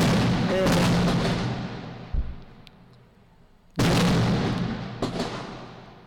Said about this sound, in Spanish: Sí, sí, se oye. Se oyen los petardos ahí.